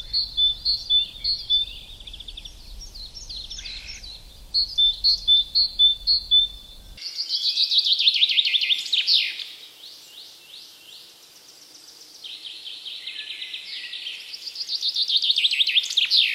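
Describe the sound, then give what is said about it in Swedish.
Great tits calling in a forest in the morning, with quick repeated high notes at first and then a busier run of sharp chirps, steady, over a faint low rumble early on. “Och det är lite talgoxar också som låter.”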